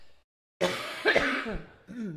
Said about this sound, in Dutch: Moet even hoesten, momentje hoor.